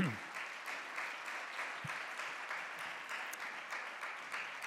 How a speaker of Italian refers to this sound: Lo svolgimento della serata, intanto accogliamo il professore e siamo contenti di averlo, quindi lo applaudiamo per salutarlo.